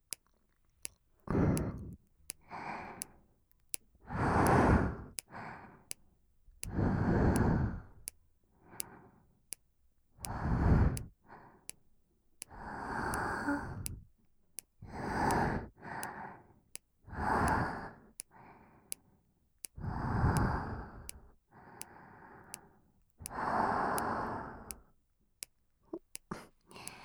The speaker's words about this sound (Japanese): 吐息だけ聞かせてあげるね。